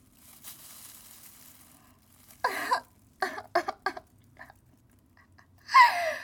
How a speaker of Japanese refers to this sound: 純度 100% のおなら。